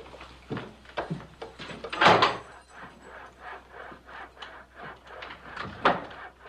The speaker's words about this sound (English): He unlocks a door at the back leading to the jail.